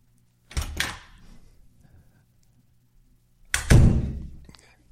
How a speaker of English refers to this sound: Open and close the door at once. If you've had a terrible time having me on the show, open and close the door twice.